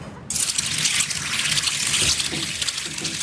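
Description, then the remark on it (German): A 15 cm knife blade grinds against a 250-kilogram water-fed grindstone in a mill, turned through gear wheels, a harsh, steady hissing rasp that starts abruptly and continues loud for a few seconds, with no one speaking. “Und jetzt kommt ein hässliches Geräusch.”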